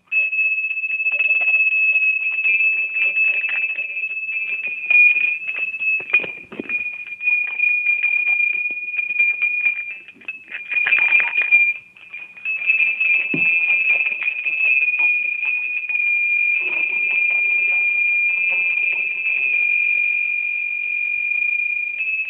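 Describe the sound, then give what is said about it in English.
A set of four bells of different sizes on a strap rings steadily for over twenty seconds, a bright, high metallic tone that shimmers and jangles without pause, with brief swells and dips in loudness. “Here's a set here that there's four on this strap. They're all different sizes, you see, so I'll try to ring them individually.”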